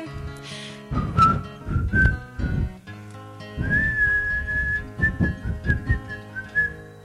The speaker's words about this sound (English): You impudent little daughter, what makes you whistle now? I'd rather whistle for a man than for a sheep or a cow.